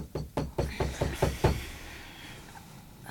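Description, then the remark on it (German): Seven rapid, insistent knocks on a wooden cabin door around 7 in the morning, evenly spaced over about a second and a half, loud, followed by quiet room tone. “Ihr Wecker hatte noch nicht geklingelt, als es gegen 7 Uhr aufgeregt an ihre Kabinentür klopfte.”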